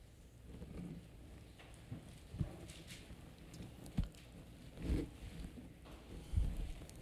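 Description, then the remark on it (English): A whip lashes down again and again onto a man's back, sharp cracking strikes landing at irregular intervals, about five in all, over a low rumbling background with no talking. “As you hear that whip tether and fall on his back, time and time and time again”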